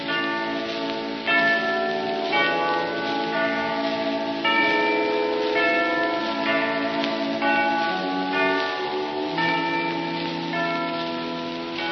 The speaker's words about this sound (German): Welch tiefe Summen, welch ein heller Ton zieht mit Gewalt das Glas von meinem Munde. Verkündige ihr dumpfen Glocken schon des Osterfestes erste Feierstunde.